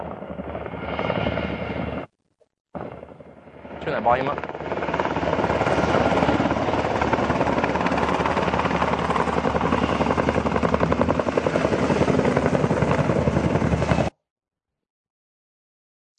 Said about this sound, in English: So we ended up having to fly during the day a fair amount. We put the call in, the helicopter would come from Takadam.